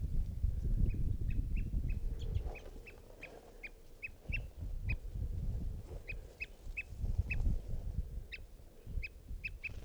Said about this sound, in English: There he goes, in flight, also flight calls.